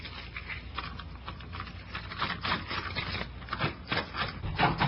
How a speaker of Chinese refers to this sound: 好，我就来开门啊。